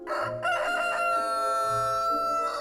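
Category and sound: bird, rooster crowing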